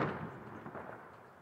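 distant gunshot

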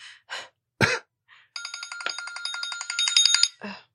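phone alarm ringing

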